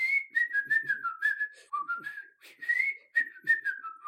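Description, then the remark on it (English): A whistling Muppet puppet, a band member, whistles a lilting tune as he walks past, clear, with notes sliding up and down in short phrases separated by brief breaths. No talking is heard. “one of the band members on the show that they're doing in their late night pastiche is a prominent Whistling Muppet that looks sort of like a California raisin, and he walks past during the bit going...”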